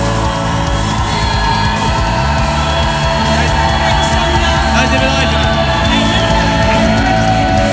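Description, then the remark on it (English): A large crowd shouts, whoops and cheers continuously in praise of God, a loud, dense roar of many voices with individual yells rising out of it, sustained for the whole stretch without pause. “Just carry on giving God a shout. Don't stop until I tell you.”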